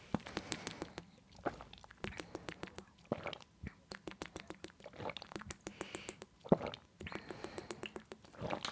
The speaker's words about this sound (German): Also auf jeden Fall jetzt wir machen jetzt alle 5 Wasserschlucke. Wahrscheinlich haben alle gar nicht so viel Wasser parat, dann halt 5 kleine Wasserschlucke. Also mitzählen. Ich hoffe, man hört es wenigstens ein bisschen.